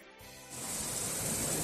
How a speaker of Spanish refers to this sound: No es otro que el de la lluvia, que acompañada de tormenta afeó un poquito el primer día de la Feria Chica aquí en la capital, pero no impidió las celebraciones previstas.